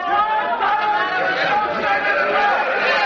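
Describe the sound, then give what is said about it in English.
An angry crowd in the street, angered on learning that the Associated Press had not carried the news of the armistice: many voices shouting and clamoring at once, a continuous agitated roar of overlapping chatter with no single voice standing out. “Meanwhile, the crowds in the street, learning that the Associated Press had not carried the news of the armistice, became angry.”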